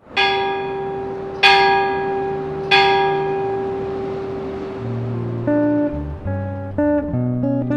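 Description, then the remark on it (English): A large commemorative Alabama bicentennial bell, inscribed 'Leave it better' across its bottom, rings out three times in slow succession, each strike leaving a long, humming resonance, followed by a run of quicker, lighter bell tones. No one speaks. “A bicentennial is, in part, about the past, but this bell is about the future and the children who will inhabit it.”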